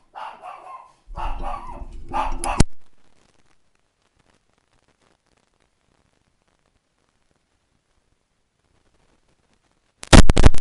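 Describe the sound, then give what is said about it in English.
A few loud dog barks in a quick burst at the start, then a long stretch of near silence before a harsh, loud burst of noise cuts in at the end. “Sorry, I have to get the dogs under control.”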